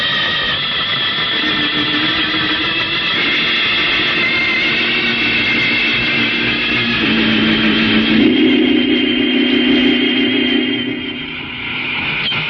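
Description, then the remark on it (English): A loud, sustained rocket engine roar from a jet boat blasting off, a high whining tone layered over a deep rumble, holding steady throughout with slight swells in pitch. No one speaks. “You and I are blasting over there in our own jet boat to take a look.”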